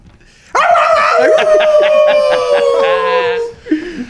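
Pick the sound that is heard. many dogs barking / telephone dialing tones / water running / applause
many dogs barking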